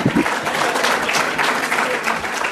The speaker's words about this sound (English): And now I want you to give yourselves a round of applause for making it here this morning.